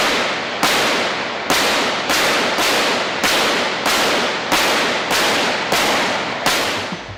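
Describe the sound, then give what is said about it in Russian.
About ten sharp gunshots ring out in quick, fairly even succession, loud, each crack trailing off in a brief echo before the next: attackers firing erratically at a presidential car, hitting only its front tyre and rear window. No voices. “В результате беспорядочной стрельбы нападавшим удалось пробить лишь переднюю шину президентской машины и заднее стекло.”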